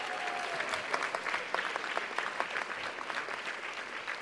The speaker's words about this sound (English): And I wanted to say that, first of all, I wanted to thank all the devotees that found their way to the kitchen and made it possible that the prasadam yesterday lunch was just wonderful. I would like a big applause for all these devotees.